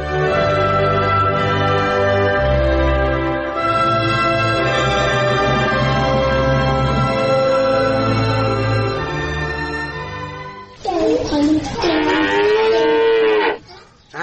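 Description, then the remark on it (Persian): A cow in a stable moos loudly, one long drawn-out low bellow followed by a shorter, wavering second moo, with no voices present. “این بابا اینجا در طویل خونه هستم برای گواه که همون دوزم.”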